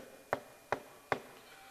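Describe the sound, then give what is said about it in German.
Three evenly spaced knocks on the wooden door of a hut in the morning, sharp and hollow, each about 0.4 seconds apart, moderately loud against a quiet background with no voices. “Am nächsten Morgen klopft es an die Tür.”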